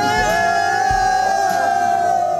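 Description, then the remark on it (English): A crowd of locals, government officials and relatives in India cheering and shouting as rescued tunnel workers are brought out, some shouting in Hindi, loud and unbroken for the whole stretch, with sustained high-pitched voices ringing steadily above the dense roar of many people. “Take a listen to miners celebrating the rescue.”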